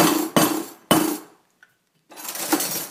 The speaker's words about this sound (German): Dann nehme ich so ein Stück rundes Draht und klopfe dann erstmal zu so einem Vierkant auch, um zu sehen, ob der Guss gut ist, ob da nicht irgendwelche Macken drin sind.